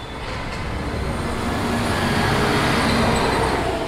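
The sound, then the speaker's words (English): A steady, dense rumble of buses pulling out of a central bus station exit and street traffic at 10 p.m., recorded from a living room window across from the exit; a continuous engine drone that swells slightly over four seconds, with no voices. “This is a recording from his living room window at 10 p.m.”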